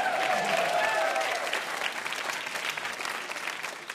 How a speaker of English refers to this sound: You may applaud.